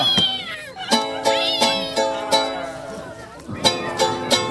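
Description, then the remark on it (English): Several people in an audience loudly imitate cat meows, as loud as they can, their wavering, gliding yowls overlapping one another over a steady, rhythmic musical backing. “In the recording, there's cat sounds. So you got to make cat sounds right now.”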